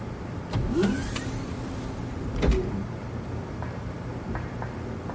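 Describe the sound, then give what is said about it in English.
A mechanical door opens for a prisoner transfer, sliding open with a high whirring hiss and a couple of solid clunks, over a steady low engine-like rumble. No one speaks. “Portal is closed, clear, but door opening.”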